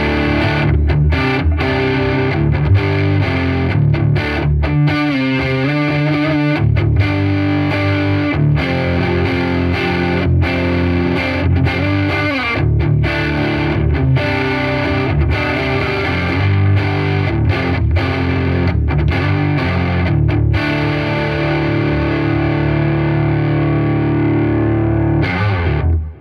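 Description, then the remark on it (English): A distorted electric guitar on its neck pickup plays alone with a warm, rounded tone, strummed chords and riffs ringing out loud over about twenty-six seconds, with a thick, saturated sustain. “Neck pickup.”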